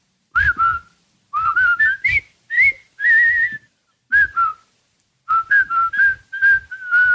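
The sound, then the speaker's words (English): In a 1957 film, several men whistle a jaunty marching tune together as they go to work, in bright, unison phrases broken by short pauses, with soft low thumps underneath like a steady march. “It's 1957, and a bunch of men are whistling to work.”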